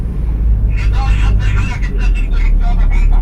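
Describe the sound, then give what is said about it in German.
The engine of a fully occupied bus drones with a steady low rumble while passengers' voices murmur, the chatter of a full bus on the move at 7:05, heading to the bus station on Nablus Road in East Jerusalem. “Am anderen Ende wartet schon der vollbesetzte Bus. Wir finden noch einen Sitzplatz.”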